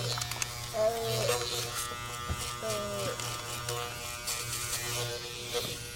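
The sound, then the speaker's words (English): A small electric trimmer buzzes steadily as it trims a man's nose hair, its motor pitch wavering as it works against hair, with brief higher whines and scraping bursts. “This is the toughest part right here. Getting this. Getting it up in here. You're getting his nose hair.”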